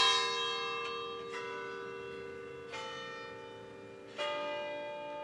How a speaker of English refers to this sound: Fourteen bells ring every 15 minutes from atop a white tower 14 stories high. It's right next to the county courthouse on the town square,